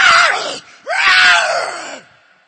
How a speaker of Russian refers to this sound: И я иду вперед. Он отступает. И дошел до на всю длину цепи. И кричит.